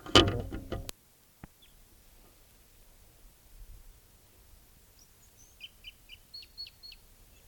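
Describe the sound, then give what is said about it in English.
A wild bird calls with a run of short, high chirps, about eight quick notes in the last few seconds, over faint hiss after an opening burst of rough noise and a click. “Wild bird.”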